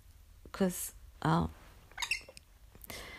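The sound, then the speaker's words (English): A pet bird lets out four short, harsh squawks and chattering chirps, spaced in quick irregular bursts with brief silences between, and no one talking. “how do you feel about being a single bird?”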